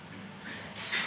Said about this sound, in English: And then let's do a pranayam, which is the syllable that we can perceive the Lord through Om. Om. And breathing in and out.